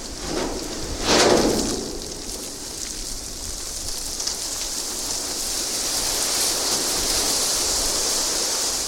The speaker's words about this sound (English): Here is a recording you made of the ship hitting sea ice.